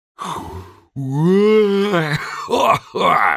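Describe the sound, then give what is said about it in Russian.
A drawn-out, voiced yawn from a man in a shop as he stretches, spreading his arms wide: a fairly loud breathy intake swelling into a long groaning tone that rises and falls, then trails off in a couple of breathy exhales. “Сладко зевнул он, потянулся, широко разводя руки, как бы нечаянно захватывая журнальчик.”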